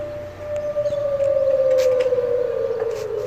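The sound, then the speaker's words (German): A steady civil defense siren wails loudly across South Korea at 10 a.m. on June 6, a national memorial day, as a remembrance rather than an attack warning; its tone holds then slowly slides downward, with faint background noise and no voices. “Im ganzen Land heulen die Sirenen, doch es ist kein Angriff, sondern eine Mahnung.”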